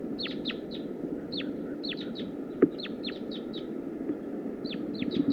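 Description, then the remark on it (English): Wild birds call, including a wild female, as more wild birds come in: quick clusters of short, high, downward-sliding chirps, repeating irregularly over a steady low hiss, with one sharp click partway through and no talking. “Wild female, more wild birds are coming in now.”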